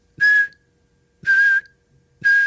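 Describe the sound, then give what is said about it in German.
Three sharp, shrill whistle blasts, each signalling one jackknife sit-up in a drill, each lasting about a third of a second, repeated at a steady pace roughly once a second, loud with silence between them. “Bei jedem Pfiff ein Klappmesser.”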